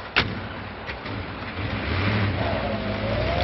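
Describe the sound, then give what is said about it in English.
A sharp thud opens, then the engine of the henchmen's car starts up and rumbles louder, its pitch climbing steadily as the car pulls away. No voices. “The henchmen return to the car and get in as Virginia and the native man keep riding.”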